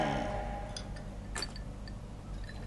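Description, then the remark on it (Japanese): Glasses clink together in a toast: a bright, ringing clink stands out among a few lighter taps, over a low steady hum with no one speaking. “8月31日おまけ配信、乾杯。”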